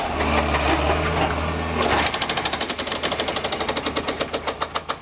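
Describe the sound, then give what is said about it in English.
A pneumatic automatic hammer on a dump-truck-sized rail machine, with an operator sitting over each rail, pounds a railroad rail: a loud machine rumble, then a rapid, steady stream of sharp metallic blows, several per second, with no voices. “but nowadays they've got this machine that's probably about the size of a dump truck with a guy sitting over each rail hammering at it with a, I think it's a pneumatic automatic hammer.”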